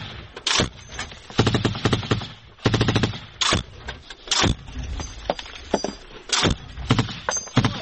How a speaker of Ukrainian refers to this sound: Це ще почав працювати снайпер нашої сторони. А так простріли до дороги в нашу сторону.